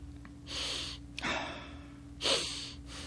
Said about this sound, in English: There's my yawn because I'm not getting enough oxygen in my brain.